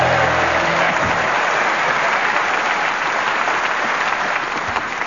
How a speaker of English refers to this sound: Here to make you feel gay, so give us a cheer with a hey, hey, hey.